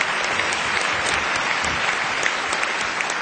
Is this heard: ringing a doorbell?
no